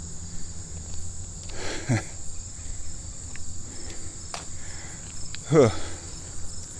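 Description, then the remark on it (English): Bees buzz around a thistle beside a creek, with two brief louder passes as they fly by, over a steady high insect drone outdoors. No one speaks. “Ooh, there's a lot of bees on that thistle. A lot of bees over there having some kind of bee party.”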